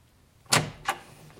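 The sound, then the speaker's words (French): Two firm knocks on a wooden bedroom door, about a third of a second apart and fairly loud, with no voices; a woman has climbed the stairs and knocks at the bedroom door. “monte les escaliers et frappe à la porte de la chambre de Lucille”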